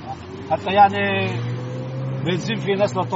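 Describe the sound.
Street traffic in Tyre, among banged-up cars and old taxis, with a steady engine drone and rising and falling motor noise as vehicles move, with indistinct voices mixed into the busy background.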